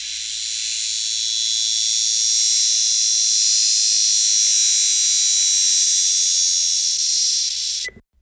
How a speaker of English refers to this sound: Can you guess? The answer is a cicada. Cicadas are winged insects who aren't exactly known for their quiet demeanor. They're loud.